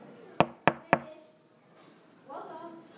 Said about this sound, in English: A man knocked on the door.